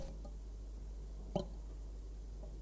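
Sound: dripping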